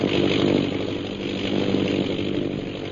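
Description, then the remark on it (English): A steady, loud droning of an airplane engine circling overhead, a buzzing propeller hum with a low rumble that holds constant for the whole stretch, with no voices. “Several hours later, the sound of an airplane circling overhead brings Peter Hawkins and Shanghai Lil to the window of their cell.”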